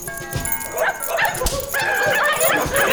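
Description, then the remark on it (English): A pack of eight Alaskan Husky sled dogs pulling a sled barks and yips excitedly, overlapping calls coming in quick bursts, loud, with a steady background noise underneath. “The legendary dog sled musher Leonard Seppala in a sled pulled by 8 Alaskan Huskies”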